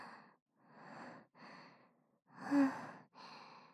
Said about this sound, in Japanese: はあ、いや、さすがに今のはだいぶ緊張したよ。息切れちゃった。うるさかったらごめんね。